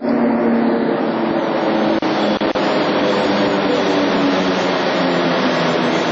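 A Beovoz Belgrade suburban railway train rumbles into a platform of the brightly lit Prokop cutting, the future Beograd Centar railway station: a loud, steady roar of wheels and motor with a low droning hum, broken by two brief clunks partway through. No one speaks.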